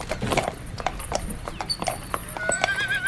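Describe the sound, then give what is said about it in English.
Hooves clip-clop in a quick, steady rhythm, and a horse lets out a high, wavering whinny near the end. No one speaks. “Okay, now, does your horse have enough gas? Apparently. All right, let's proceed. Giddy up.”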